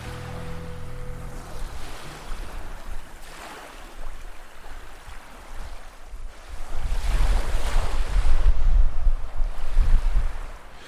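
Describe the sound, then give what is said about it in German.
Surf waves break and wash onto a beach in broad, rolling swells during surf fishing for flatfish, with a steady wind rumbling against the microphone; the surges grow louder toward the end. No one speaks. “Letzter Versuch für heute in der Brandung auf Plattfisch.”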